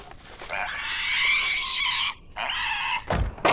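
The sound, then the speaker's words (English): A pig, being taken from the back seat of a car parked at a grocery store, lets out two drawn-out, high-pitched oinking squeals, the first long and the second shorter after a brief pause, loud, followed by a quick thump. “At the grocery store, the Great Caipu and Kitsuan parked the car, removing the pig from the back seat.”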